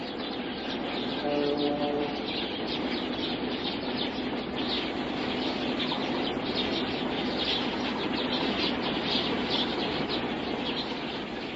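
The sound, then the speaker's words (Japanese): A dense, steady chorus of many sparrows chirping at once as they return to an island from foraging in town while the sun fades, overlapping tweets forming a continuous busy twitter throughout, moderately loud with no voices. “絵をあさりに町へ行っていたスズメが島へ帰ってきた。”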